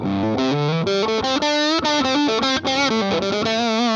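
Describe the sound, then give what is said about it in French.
A loud electric guitar on the neck pickup, through a distortion pedal set to asymmetric clipping mode, plays a riff of quick chords and sustained notes, the gritty tone slightly nasal and compressed, with no voices. “On entend un côté un peu plus nasal, hein, au niveau de la distorsion.”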